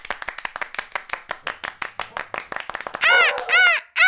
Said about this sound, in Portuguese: Recebam com palmas e alegria a arara azul.